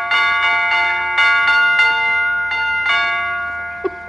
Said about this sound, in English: Well, it's a little early, but I could swear that was Jingle Bells. That was somebody at the door. I'll get it.